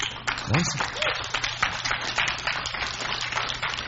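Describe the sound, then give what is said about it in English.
A crowd claps steadily throughout during a church sermon, a dense patter of many hands, with a brief vocal whoop or shout rising near the start amid the applause. “All of heaven stops and rejoices when one sinner repents. Clap.”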